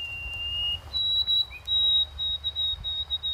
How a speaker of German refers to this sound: Jetzt geht es noch um einen Singvogel und seine Dialekte, nämlich die Weißkehlammer. Das ist ein Sperlingsvogel, sowas wie ein Spatz, den es in ganz Kanada gibt. Und der ist bekannt für seinen Ruf.